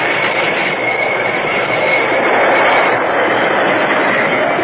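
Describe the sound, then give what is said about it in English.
A train brakes hard to a stop before tampered tracks in a canyon, a loud, steady roar of grinding wheels and a high hissing squeal that holds unbroken for several seconds, with no voices. “Stop the train. Stop it quick.”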